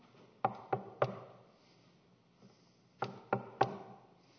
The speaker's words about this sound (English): She continues to go back. She continues to knock. She knocks and knocks and knocks again.